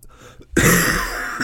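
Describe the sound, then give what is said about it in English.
A single harsh, dry cough bursts out loud, a raspy rush of air followed by a brief second catch at the end; no one speaks. “that's a dry cough.”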